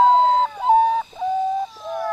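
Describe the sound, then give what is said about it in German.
The eerie call of a potoo, recorded at the foot of the Andes in Venezuela: a series of about four drawn-out, mournful whistled notes, each sliding slightly downward, fairly loud with no voices. “Die unheimlichen Laute des Portu stammen aus einem Arrangement mit Aufnahmen, die Rocher am Fuß der Anden gemacht hat”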